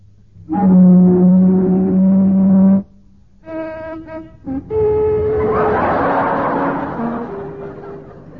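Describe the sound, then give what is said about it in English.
A boat's siren horn gives a loud, steady low blast of about two seconds, then a few shorter broken toots, before a rough rushing roar rises with the horn tone still sounding underneath. “Nein, but to make the certainties, mit the siren on the final, I give the boot, ja?”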